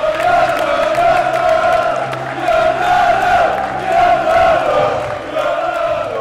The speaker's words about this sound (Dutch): Afgelopen zondag hoorden we voor het eerst weer gejuich in een voetbalstadion.